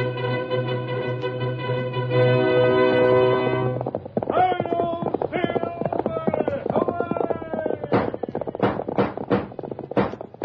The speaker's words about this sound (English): Horse of the speed of light, a cloud of dust, and a hearty high old silver, the Lone Ranger.